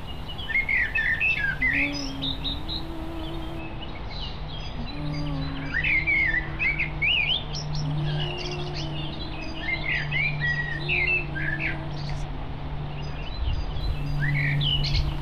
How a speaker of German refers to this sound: Und du fängst an, zum Gesang der Vögel zu singen.